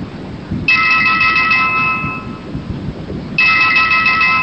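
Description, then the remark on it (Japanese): A phone rings with an incoming call as the culprit phones the father back again: an electronic ringtone in two bursts, a long ring then a pause before it starts again, loud over a low background rumble. “銀行の ATM 前で電話をかけた父親に犯人の用意した口座番号を教えて入金させた後、しばらくして再度電話をかけてきます。”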